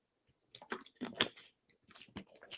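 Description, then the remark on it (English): Someone drinking water: a quick run of wet sips and swallowing gulps, moist mouth clicks and squishes in irregular bursts, fairly soft, with no talking. “We're going to get a little, let me drink my water.”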